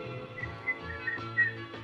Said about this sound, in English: I can't whistle. I also just ate like 4 cookies, so.